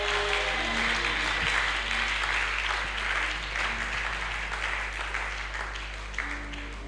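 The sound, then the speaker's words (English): A crowd applauds steadily for several seconds, a dense, continuous wash of many hands clapping at once, fairly loud and sustained without pause, with no voices standing out. “You're not clapping.”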